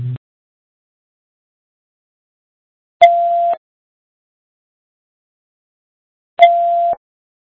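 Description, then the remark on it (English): Two steady electronic beeps from a radio, each about half a second long and spaced a few seconds apart, sound clearly against silence, with a brief low thump at the very start. “Take that beeping off there before they get in the woods.”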